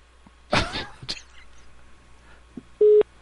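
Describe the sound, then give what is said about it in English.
Two steady, loud beeps from a hotel's telephone system after the caller is put on hold sound near the end, one after another, following a brief rough burst of noise and a quiet stretch. “We were just inquiring about accommodations, and whoever we were speaking with put us on hold, and the phone machine went... Boop, boop.”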